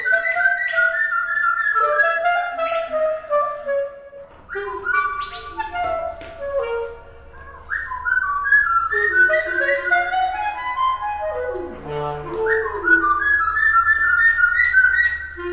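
A small songbird with brown feathers and a dark beak trades quick, chirping phrases in call and response with a clarinetist's sustained, sliding melodic notes, both fairly loud, overlapping in a continuous improvised duet with no talking.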